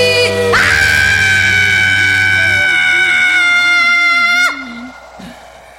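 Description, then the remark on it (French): A loud, sustained human scream rings out for about four seconds, a single long harmonic-rich cry held at steady pitch before cutting off abruptly, followed by quieter background sound. “Je te crie dans un grand cri.”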